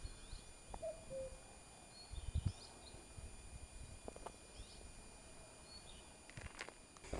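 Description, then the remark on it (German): A common cuckoo gives one faint two-note call in a chestnut forest on a high path of the Way of St. James under a clear blue sky, with soft footsteps crunching as someone walks and small birds chirping faintly in the background. “Und wie Sie gerade gehört haben, ist hier auch ein Kuckuck zu Hause.”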